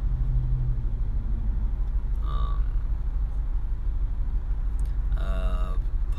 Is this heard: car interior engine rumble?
yes